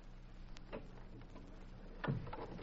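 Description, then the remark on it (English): A door swings shut with a solid thud, preceded by a brief creak and faint clicks of the latch, in an otherwise quiet room. “We better shut this door.”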